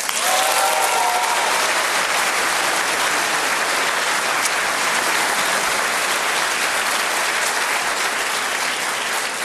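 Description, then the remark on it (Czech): A large audience claps loudly and steadily for several seconds in support of their candidates at a candidates' debate, a dense, sustained wave of enthusiastic applause with a brief whistle or cheer near the start. “Já od vás očekávám jenom bouřlivý potlesk na podporu vašich kandidátů.”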